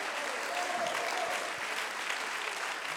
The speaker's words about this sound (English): Oh, if you love him today, clap your hands and lift your voice and si magnify him.